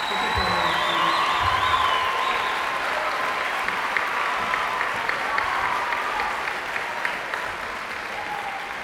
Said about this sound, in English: And so as we start this evening, could we please give our wonderful music teachers a big round of applause for all they do.